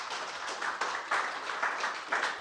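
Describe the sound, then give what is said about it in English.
A crowd of people applauding together, a dense, steady wash of clapping with slight swells, sustained for a few seconds with no voices. “We'll get a round of applause.”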